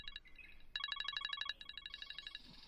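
A mobile phone ringtone plays a bright, rapid electronic melody of pulsing chirpy tones, fairly loud, repeating in quick bursts with no one talking.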